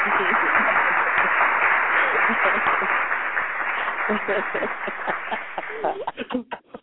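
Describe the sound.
A crowd bursts into sustained applause, dense clapping that holds steady for several seconds, then thins out and breaks into scattered final claps, with faint voices mixed in.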